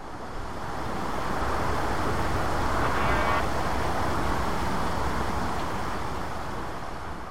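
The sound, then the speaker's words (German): A steady, unbroken roar of traffic on the A1 motorway through farmland fills the scene, a broad constant hum of car engines with no individual vehicles standing out and no voices, with only a brief faint tonal trace of birdsong partway through. “Linker Hand zieht die Autobahn A1 ihre Spur durch die Landschaft, die Automotoren sind nicht zu überhören.”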